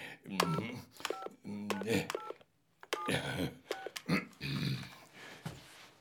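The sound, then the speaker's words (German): A mobile phone keypad beeps as a number known by heart is dialed to call Frau Kolumna, about eight short dual-tone presses at an uneven pace, clear, mixed with murmuring vocal sounds and busy background noise. “Darf ich dein Handy benutzen? Ich kann die Nummer auswendig.”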